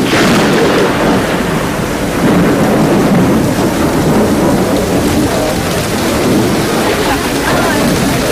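Heavy, steady rain pours down with a loud, continuous hiss, while deep rumbles of thunder roll through underneath, filling the whole stretch without a break.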